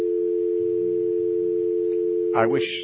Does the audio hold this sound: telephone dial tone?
yes